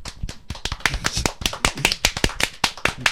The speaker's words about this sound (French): Nous allons t'applaudir quand même. C'est trop gentil.